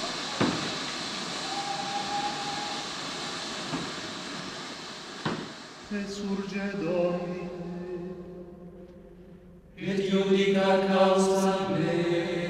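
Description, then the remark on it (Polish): A train comes to a halt in an open field, apparently after someone pulled the emergency brake: steady hissing rumble with a few sharp metallic clanks, then a loud, sustained screech of brakes that dips briefly before squealing again. “Co się stało? Stoimy. W szczerym polu? Ktoś pociągnął za hamulec?”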